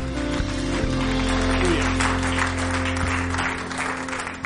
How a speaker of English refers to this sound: Hallelujah. Give him a hand clap of praise.